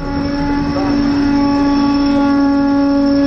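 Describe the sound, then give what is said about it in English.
A commuter train at about 28 miles per hour brakes hard to a stop under a penalty brake application from PTC (Positive Train Control): a loud, continuous mechanical roar with a steady high whine and humming tones held throughout. “And we received a penalty brake application.”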